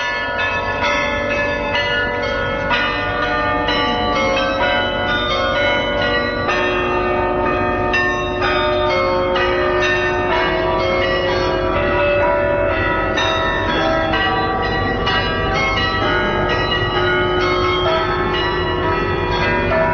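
Church bells ring out a steady, continuous melody played as a tribute to a great musician, their overlapping tones sustained and resonant throughout, fairly loud and full with no voices present.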